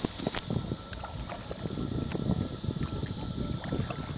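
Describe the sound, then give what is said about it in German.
A small boat glides steadily through calm water past small grottos and caves, with soft irregular splashes and lapping over a continuous hiss of wind and motion, and no voices. “Mein kleines Boot gleitet an kleinen Grotten und Höhlen vorbei, die mit jeder kleinen Welle ein bisschen mehr ausgewaschen werden.”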